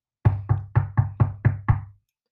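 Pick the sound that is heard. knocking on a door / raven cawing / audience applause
knocking on a door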